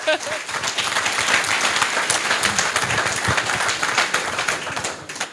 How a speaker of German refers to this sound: Die Musik und hattet ihr auch selber gemacht, oder wie war das? Ja. Das habt ihr gar nicht gesagt. Ja, dafür nochmal einen Applaus.